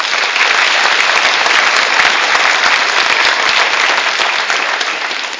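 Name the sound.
audience applause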